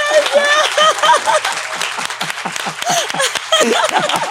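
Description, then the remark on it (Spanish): A burst of dense, steady applause from an audience for a guest, lots of overlapping claps, with voices calling out and cheering over the clapping throughout. “Le damos un aplauso”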